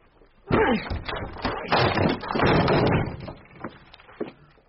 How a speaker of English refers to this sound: We shall have to break it down. They did so.